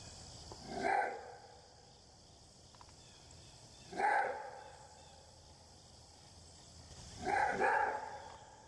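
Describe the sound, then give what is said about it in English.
A wild canid's roar bark repeats three times, spaced about three seconds apart, each a rough, raspy burst. The calls are moderately loud over a steady, faint background hiss. “And they also have a roar bark, which is really unique.”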